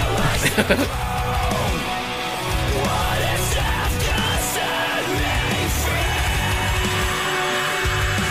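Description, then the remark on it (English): A loud, dense rock song with layered vocals, clean singing tangled with harsh screaming over distorted guitars and pounding drums, playing continuously at a steady volume. “I like the layered singing and screaming like that.”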